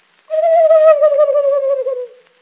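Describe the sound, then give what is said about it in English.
A voice imitating a turkey gobbling: one loud, wavering call that lasts nearly two seconds and slowly drops in pitch, with no other sounds around it. “Then the great big turkey gobbler, he makes a noise like this.”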